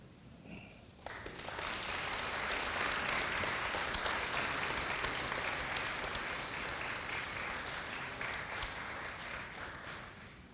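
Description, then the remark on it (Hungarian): Sustained audience applause for the members of a zither orchestra at an award presentation breaks out after a brief quieter moment, a dense, steady wash of many hands clapping that holds at an even level for about ten seconds. “És ha minden igaz, itt vannak a Citera Zenekar tagjai, őket is illeti egy nagy taps, ha jól tudom.”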